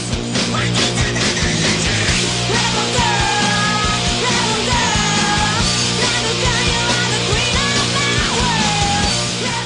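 Loud, dense punk rock with distorted guitars, driving bass and drums, and a raw, shouted female-sounding vocal riding over the wall of noise throughout.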